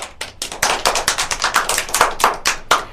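A group of children in a maths lesson claps for a classmate who answered a problem, in a quick, steady run of sharp, bright smacks lasting a few seconds, with no talking over it.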